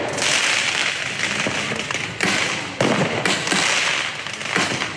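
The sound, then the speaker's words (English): Fireworks fired off by protesters at police during a night of protests in France crackle and bang in a dense, continuous barrage, with sharp loud bursts piercing a steady crackling roar, outdoors, with no voices heard. “Protesters fired off fireworks at police.”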